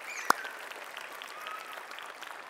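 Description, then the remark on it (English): A church audience applauds to welcome the children, with a soft, steady patter of many hands, one sharper clap standing out near the start, and no voices over it. “So for those who are new to the church right now, and for those of you who are young, adults, let us make our applause be their welcome.”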